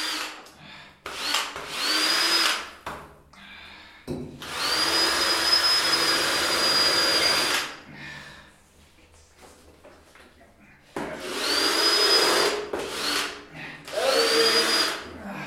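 A power tool, like a drill, runs in repeated loud bursts of whirring, high-pitched whine, with short pauses and quieter work noise between them, on a construction site.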